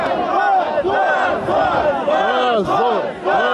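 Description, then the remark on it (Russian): A crowd of workers boos and shouts in disapproval at Lukashenko's statement that there will be no new elections, many voices rising and falling together in a loud, continuous roar of jeering with wavering, overlapping calls. “Рабочие встретили это неодобрительными возгласами.”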